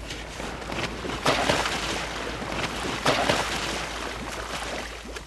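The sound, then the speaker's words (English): Divers in wetsuits slip over the edge into sea water with a mile and a half of water beneath them: two brief splashy bursts about two seconds apart over a steady rush of wind and water, with no talking. “And slip into the water over the edge.”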